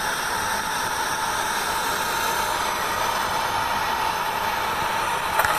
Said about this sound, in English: But the video was actually running, and it counted down the altitude, 50, 30, 20 feet above ground, and you could hear touchdown before you could actually see the runway.